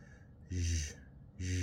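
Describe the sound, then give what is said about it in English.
A voice imitates loud, heavy breathing: two strong, raspy breaths, the second cut short, with a brief quiet gap between them. “His mind, perhaps because he was focusing on the subject, replayed that breathing.”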